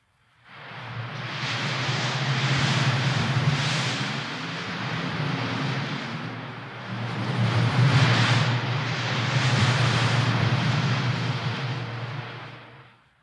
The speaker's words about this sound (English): You know, there's an updraft all the time coming up out of the heat down there at the bottom, and that makes for a constant wind that whips at the scrubby pine trees on the canyon edge. Just listen.